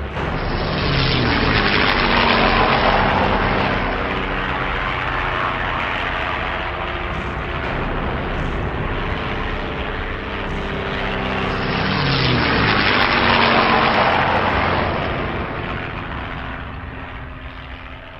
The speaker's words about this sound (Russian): А самолеты, казалось, заполняли все небо. Они летали не очень высоко, и от их рева дрожала земля.